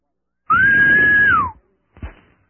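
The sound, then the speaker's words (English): A man's voice lets out one loud, sustained Hebrew wolf call, holding a high pitch for about a second before sliding down, followed by a short breathy grunt. “My friend, that was a Hebrew wolf call, if you want to call it that.”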